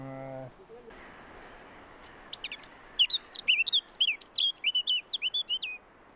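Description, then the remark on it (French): A Eurasian blackcap sings a bright, rapid warbling phrase of fluty notes, clear over faint outdoor background noise, after a brief low droning sound at the start. “Ça, c'est ce qu'on appelle la fauvette à tête noire.”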